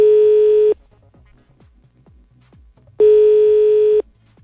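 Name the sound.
telephone call tone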